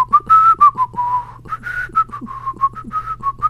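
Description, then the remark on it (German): A person whistles a short, wandering tune of quick pitched notes around one register as a waiting melody while looking for a calendar on a phone, with brief breaths between phrases and a steady low hum underneath. “Kleine Wartemelodie.”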